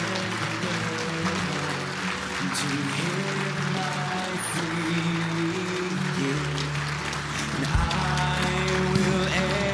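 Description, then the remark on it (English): A church audience applauds people coming forward to the front during an altar call, steadily for about ten seconds, a dense, even wash of many hands clapping, with low sustained instrumental tones humming underneath and no one speaking. “And we'll welcome you and we'll applaud your decision.”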